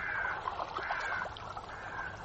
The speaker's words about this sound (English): And those birds. What's all that about, I wonder? They must have seen something. Look at the way they're hovering.